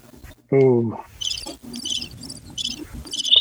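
Crickets chirp in short, evenly spaced bursts, a steady high trill repeating about five times. A brief voice sounds near the start, then the chirping continues alone at a moderate level.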